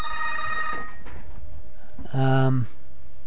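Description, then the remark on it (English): A telephone rings in two short bursts, a bright warbling electronic tone at the start and a louder ring a moment later, with quiet in between. “I lost my place here with that phone.”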